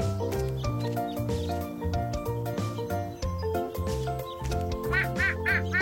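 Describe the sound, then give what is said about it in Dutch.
A duck quacks several times in quick succession near the end, loud, over a steady bed of cheerful instrumental music that plays throughout; the duck is at a children's picnic and won't give back a bread roll it has taken. “Wat is dat? Een eend.”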